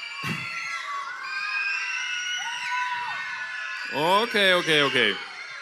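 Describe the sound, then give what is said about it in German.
About 300 children in a planetarium shout and cheer loudly all at once, a dense sustained roar of high voices that swells toward the end with a few louder whoops rising above it. “Wir aber sind hier 300 im Planetarium, das heißt, wir sind schon mal 300 Mal lauter. Kann ich mal ganz kurz hören, dass wir 300 Mal lauter sind?”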